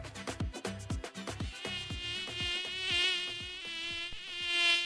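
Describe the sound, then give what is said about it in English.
A mosquito carrying the malaria parasite buzzes, a thin, persistent high-pitched whine that wavers and swells in loudness over several seconds, with no voices. “Could this be the most frustrating sound in the world? A mosquito, which bears the malaria parasite, looking for its next snack, you.”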